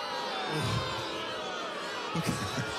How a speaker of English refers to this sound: man, this crowd is amazing. Should we stop the show now